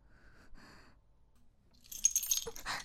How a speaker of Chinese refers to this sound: 你还给我，这就是一个普通的钥匙扣。